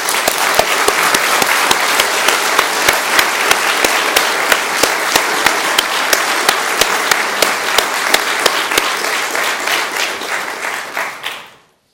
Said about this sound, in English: And I think at this time we ought to applaud and give the Lord a thank offering.